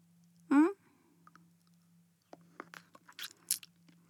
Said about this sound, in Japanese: あ、飴食べてる音気になる？ごめんね。映画見始めるまでには舐めちゃうから、ちょっと待って。え？もっと耳元で舐めてほしい？